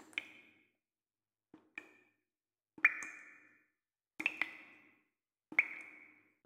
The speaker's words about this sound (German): Er ist an seinem Küchentisch gesessen. Der Wasserhahn hat getropft.